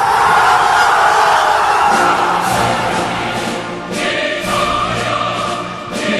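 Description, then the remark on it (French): A large crowd in Rome, Italy, cheers jubilantly after Italy's football team qualified on a penalty shootout. The loud, continuous roar has scattered shouts and whoops rising above the steady din for several seconds, easing slightly toward the end. “Tiens, les cris de joie que vous avez entendus sont des cris de joie qui sont déroulés en Italie, évidemment, plus précisément à Rome,”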